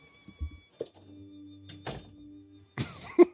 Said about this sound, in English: I like the door sound. There he goes.